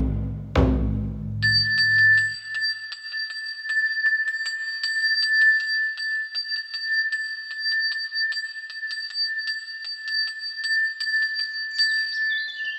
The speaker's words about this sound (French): À l'intérieur du sanctuaire, la cloche sonne et les pièces de monnaie tintent.